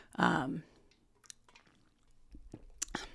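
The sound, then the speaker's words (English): Someone drinking water: a loud, breathy gulp at the start, then a few soft, wet swallows and small mouth clicks scattered over a quiet background, with no talking. “Sorry, I'm drinking water.”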